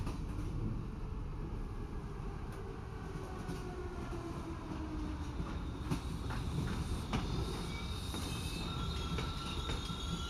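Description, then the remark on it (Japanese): A train braking as it arrives at its destination station, its heavy rumble steady and loud throughout while thin, high metallic squeals of the wheels ring out above it, with occasional clacks and no voices. “そろそろ目的地です。ブレーキをかける瞬間ちょっと揺れますのでお気をつけくださいね。”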